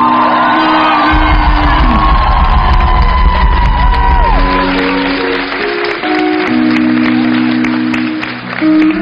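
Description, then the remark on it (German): A loud concert crowd claps and cheers steadily for the band's bassist as the band is introduced, with whoops and shouts rising above dense applause while bass-heavy music rumbles underneath, then eases slightly before swelling again. “Du machst einmal Applaus für den gelenkigsten, besten und schlausten Bassisten dieser Welt.”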